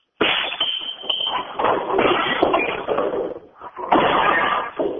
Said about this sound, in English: I'm at a job site out in the plains, and I'm going to be busting some ceramic tile